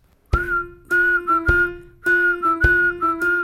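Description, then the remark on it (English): Someone whistles a short, bright melody in clear, close phrases with brief pauses between notes, accompanied by soft low thumps marking a beat underneath. “You whistle a line and then you sing, "When you're a Viking."”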